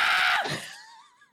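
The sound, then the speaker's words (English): A person lets out a loud, harsh scream that drops in pitch and trails off into a thin, wavering cry, fading within about a second and a half. No talking. “You don't have to scream. I can hear you.”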